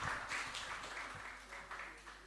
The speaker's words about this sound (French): Bravo, on les applaudit très fort, super.